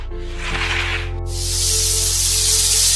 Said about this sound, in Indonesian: Merasa namanya dipanggil-panggil, ular hitam itu pun akhirnya datang mendekat kepada Ki Pasek Tenganan sambil mendesis-desis.